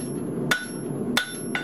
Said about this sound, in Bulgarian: Първи век преди Христа. Горещ летен ден. В центъра на град Аксум кипи работа. Група майстори гравират орнаменти с различна форма върху огромни каменни блокове.